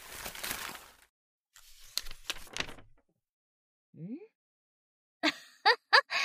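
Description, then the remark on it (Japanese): Crisp rustling of a paper letter as it is unfolded and handled, coming in several short bursts with quiet gaps, plus a brief soft vocal murmur midway. “連絡の手紙の内容をよく確認してみろ。”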